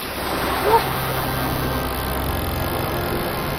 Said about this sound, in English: What is that? These old fridges do make some funny noises sometimes.